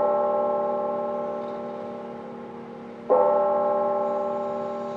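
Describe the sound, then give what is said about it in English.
A church bell in Chattanooga, Tennessee, tolls slowly in the late afternoon as a memorial chime for military service members who died in shootings, its deep, resonant tone humming and fading before a second strike rings out a few seconds later. No one speaks. “Late this afternoon, several churches and chapels rang their bells. They chimed five times, one for each of the military service members who died in the shootings 1 week ago.”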